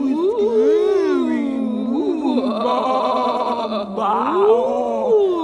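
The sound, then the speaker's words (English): A voice imitates a ghostly sheep bleat, a long wavering moan that swoops up and down in pitch for several seconds, fairly loud, with no other sounds around it. “Sheep ghost will haunt you.”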